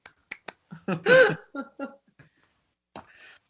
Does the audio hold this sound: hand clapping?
yes